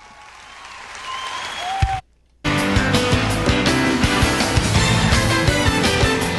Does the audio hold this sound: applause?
yes